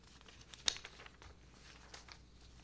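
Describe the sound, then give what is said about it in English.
Quiet rustling and crinkling of two sheets of paper being handled as they are submitted at a hearing, with one sharper crackle early on followed by softer shuffling, with no one speaking. “I'll submit two sheets of paper.”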